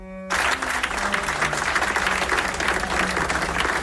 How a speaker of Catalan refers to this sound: Amb aquesta llarga ovació, el públic belga ha rebut l'icònic violoncel de Casals